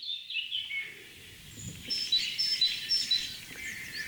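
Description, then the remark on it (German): A tit calls with a series of short, high, thin notes repeated in quick succession over a soft outdoor background with faint low rumble. “Cool, Meise.”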